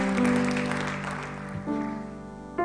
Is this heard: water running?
no